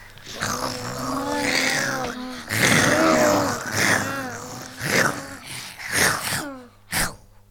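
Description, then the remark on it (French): A voice imitates a lion roaring: a series of loud, drawn-out groaning roars with wavering pitch, coming in several bursts and ending with a short, sharp final roar. “Mais le lion refuse et continue à remuer et à rugir.”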